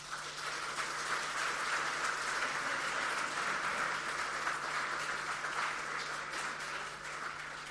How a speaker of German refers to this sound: Ich denke, es ist nochmal ein Applaus für euch wert, ja?